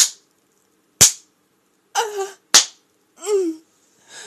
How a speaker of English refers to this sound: He turns me around and slaps my ass free hand.